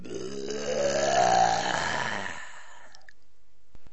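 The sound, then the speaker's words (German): A long, loud, drawn-out burp, rough and throaty, swelling for about two and a half seconds before cutting off into near silence with a couple of faint clicks. “»Gutes Frühstück«, brüllte der Riese, und dann rülpste er, dass alle Blumen verwelkten.”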